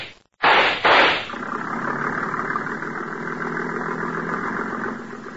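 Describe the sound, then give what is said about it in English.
A speedboat engine at a dock coughs into life with two rough bursts, then settles into a steady, buzzing mid-pitched drone as the boat pulls away downriver, holding for several seconds and easing off slightly at the end. “There he goes, into the speedboat at the dock.”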